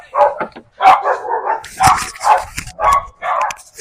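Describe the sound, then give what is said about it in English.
Several neighborhood dogs bark outside in a rapid, overlapping volley of sharp barks and higher yips, fairly loud, with barely a pause between them for the whole stretch. “All the dogs in the neighborhood have come out here. You can actually hear him.”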